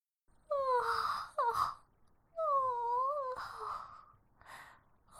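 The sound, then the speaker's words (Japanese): A long, drawn-out yawn from a woman, stretching into a sliding, moan-like exhale, followed by a few softer breathy sighs. “やだ、私ったらお兄さんの前でこんな大きなあくび。”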